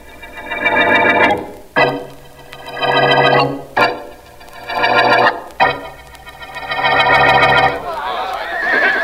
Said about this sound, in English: Keep those horses quiet, will you, fellas? We don't need them till the next scene. Now get them away so we don't pick them up on this microphone.